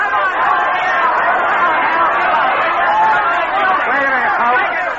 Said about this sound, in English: Then came a night, long after, a nightclub in Hollywood, the crowd yelling.